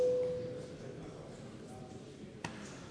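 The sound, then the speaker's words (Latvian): A steady electronic bell tone, rung in a parliament to call deputies to vote on a proposal, sounds at the very start and quickly fades into low murmur, followed near the end by a single sharp click. “Paldies, lūdzu zvanu.”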